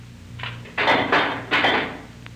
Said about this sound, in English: here's the key. Open the door.